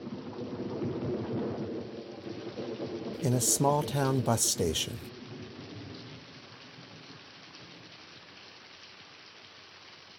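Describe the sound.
Steady heavy rain hisses throughout on a stormy night, with low rumbles of thunder, loud at first and easing toward the end. A man speaks briefly over the storm partway through.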